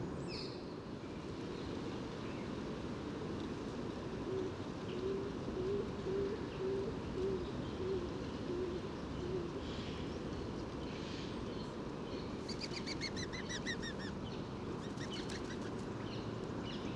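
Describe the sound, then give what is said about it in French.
A stock dove coos in a run of soft, low, evenly repeated notes over a steady outdoor hum, with brief high bird chirps appearing near the end; no one speaks. “Toujours le pigeon colombin, donc ces bruits d'ailes particuliers, très doux.”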